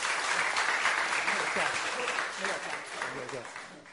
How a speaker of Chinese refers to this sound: 那正道的题目就是神的仆人，让我们以热烈的掌声欢迎他。